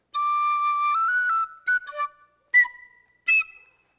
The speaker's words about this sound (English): And then I also, do you know what this is? It's kind of a flute. It's a penny whistle.